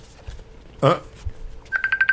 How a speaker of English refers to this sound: What is that is ringing? Is that Pete calling you? Yeah. It's coming off my other iPad.